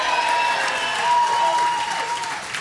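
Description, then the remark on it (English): A crowd claps and cheers steadily for the Bannockburn men's team, a dense wash of applause with a few raised voices and whistle-like tones riding on top, holding loud throughout before easing slightly at the end. “It was not quite the victory we were looking for, but we'll give a cheer to the Bannockburn boys as well.”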